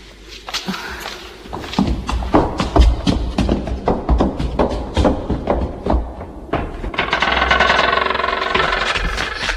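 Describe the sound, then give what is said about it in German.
A low engine rumble runs under a string of thuds and taps like footsteps, then swells into a steady, droning motor hum as a car arrives, holding to the end. “Da ist der Wagen.”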